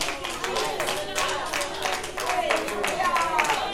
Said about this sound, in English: I know you clap your hands and I know you're making some noise. But all of that is good, but you've got to ask him for the water.